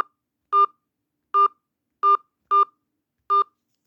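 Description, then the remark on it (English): Five touch-tone phone keypad beeps sound as a five-digit zip code is entered, short dual-tone bursts at slightly uneven intervals, clear against silence with no voices. “Enter your 5-digit zip code, followed by the pound sign.”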